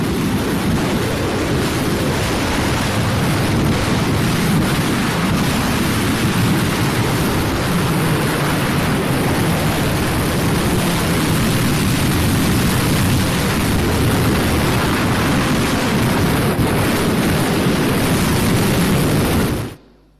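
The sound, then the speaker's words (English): A deafening, unbroken roar of a storm over the Sea of Galilee, dense rumbling wind and churning waves at full loudness for about twenty seconds, with no voices, cutting off abruptly at the end. “I actually Googled storms in the Sea of Galilee. And I found this video clip.”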